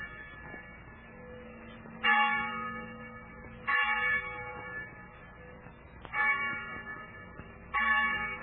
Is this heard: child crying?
no